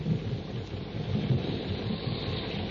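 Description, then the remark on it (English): A jungle thunderstorm in full force at a river, a tributary of the Ubangi River: a dense, steady roar of heavy rain with deep, rolling thunder rumbling underneath, loud, with no voices. “Before Tarzan and his friends are able to cross the river, a jungle storm breaks.”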